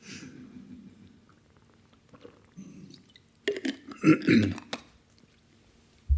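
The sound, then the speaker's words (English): Someone sips water, a soft slurp followed by a few wet gulps and swallows, then a faint breath and a low thump at the end. No words are spoken. “just have a drink of water. I'm getting a little bit dry.”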